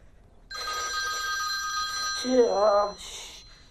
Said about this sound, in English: Salma's secret phone rings.